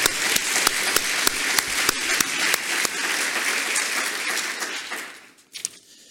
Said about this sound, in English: So let's give ourselves an applause here.